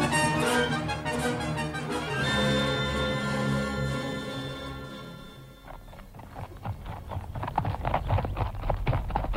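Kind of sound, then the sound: animal, horse hooves clip-clopping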